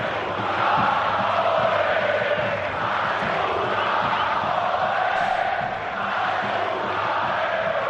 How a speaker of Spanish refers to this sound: Un sonido desagradable que se ha producido hoy en Montjuïc. Los cánticos de A Segunda a la Almería.